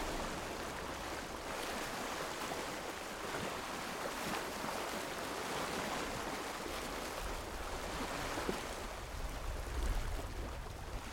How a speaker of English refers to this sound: These are some sounds from a cold February day on Bembridge Beach on the Isle of Wight. This is a recording, Bembridge Beach, windy day, right by the seaside, right by the shore, to get some wave noise.